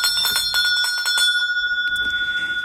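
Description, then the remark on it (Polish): A small bell rings in a quick series of bright, clear strikes, each leaving a sustained metallic tone that lingers and slowly fades. Fairly loud, with no voices. “Jeżeli rozlegnie się teraz dzwoneczek, to jak zwykle jakąś myśl na koniec, proszę państwa.”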